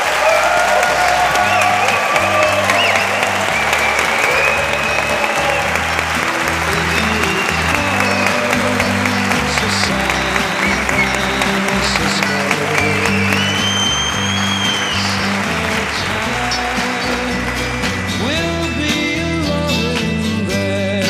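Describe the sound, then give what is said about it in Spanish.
Sustained applause from listeners attending a live broadcast of the radio show La Ventana at the Palacio de Oribe in Córdoba, loud and dense, with many hands clapping steadily for about twenty seconds, some cheering mixed in and a few tonal sounds rising above the crowd near the end. “Parar un momentito los aplausos para reanudarlos enseguida, porque lo primero es presentar a nuestros anfitriones de esta tarde.”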